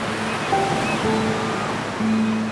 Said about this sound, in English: They've been tossed around in that sea and those waves.